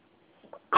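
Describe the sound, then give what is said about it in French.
A small child coughs once, a short sharp burst coming right after a couple of faint little throat sounds, with otherwise little sound around. “Oh, tu tousses?”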